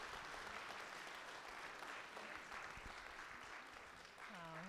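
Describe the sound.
An audience applauds in a steady, dense wash of clapping that holds at an even level for several seconds, and a single voice begins speaking just as it tapers off.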